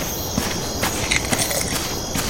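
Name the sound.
crickets chirping at night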